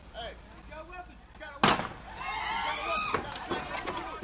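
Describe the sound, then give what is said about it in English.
A single sharp, loud gunshot cracks out amid excited shouting voices, followed by a couple of fainter pops as the yelling continues: U.S. soldiers firing blank rounds and laser pulses in a training exercise in a mock Iraqi village of plywood crates and sheds at Fort Irwin, at 105 degrees. “It sounds real, but all that's being fired here are blanks and harmless laser pulses.”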